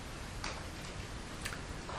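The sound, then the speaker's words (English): A clock ticks steadily, about one soft tick per second, over a faint hiss of background noise with no one speaking. “But the clock will only tick so long.”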